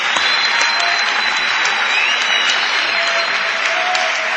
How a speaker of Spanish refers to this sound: Estamos en Pehuajó por Radio del Plata. Pueden aplaudir a Pehuajó, por lo menos.